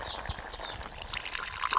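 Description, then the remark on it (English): Water boiled over a wood fire for morning tea splashes and trickles as it is poured from a pot, a steady liquid stream lasting a couple of seconds with no one speaking. “Bertoda throws a few twigs onto the fire and boils water in a pot.”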